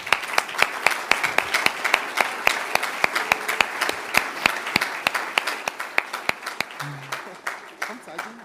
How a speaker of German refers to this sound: Meine Damen und Herren, ich bitte um einen großen Applaus für den Eulenstein-Fan